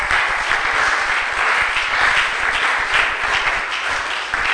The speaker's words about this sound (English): Shall we clap?